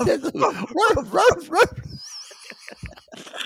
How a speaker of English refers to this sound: Muffin's barking. He's hearing it going, this is filthy.